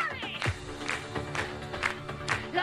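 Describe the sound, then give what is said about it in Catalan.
A crowd applauds and cheers steadily, a dense wash of clapping with periodic swells and a few whistles, mixed with a tonal background murmur throughout. “Escolta, molt aplaudiment, eh?”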